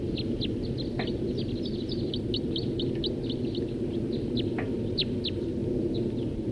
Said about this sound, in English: Stop. More birds joining.